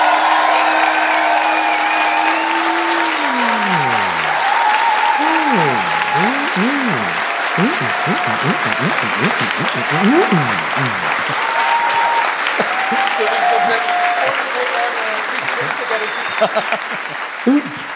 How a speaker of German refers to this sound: Ihr dürft auch für mehrere Kandidaten applaudieren, das wird nicht gezählt, sondern da geht es um so eine Gesamtidentität.